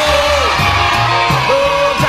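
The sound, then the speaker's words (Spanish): A loud, steady crowd roar of cheering and yelling for a colleague in Valparaíso, on Radio Punto 7, with whoops and shouts rising over a dense wash of noise throughout, likely mixed with clapping. “Ok, muy bien, fuerte el aplauso para nuestro colega allá en Valparaíso.”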